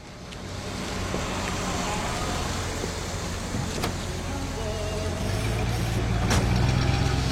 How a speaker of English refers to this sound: we cut to Toski driving. His car collects his partner, and it's moving before the door even closes.